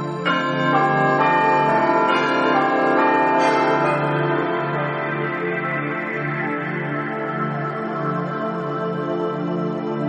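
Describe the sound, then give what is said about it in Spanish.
A church bell tolls with rich, ringing overtones, several strikes overlapping into a long, loud shimmering resonance that slowly fades, with no voices present. “Dicen que el 24 de junio, día de San Juan, las personas que son caritativas y generosas oyen el tañido de la campana que reposa en el fondo del lago.”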